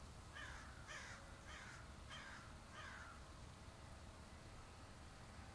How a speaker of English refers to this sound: As I record this meditation, I'm outside and you can hear birds. You can hear cars. You might hear planes. People working.